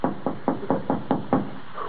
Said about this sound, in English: Shall we knock? They do.